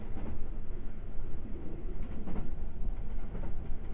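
Steady rumble of riding inside a moving train, a dense low-frequency drone with faint rattles and soft clatter running continuously throughout, with no voices.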